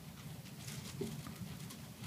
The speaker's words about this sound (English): Hearing pages turn is a blessing, whether it's Sunday morning, Sunday night, anytime.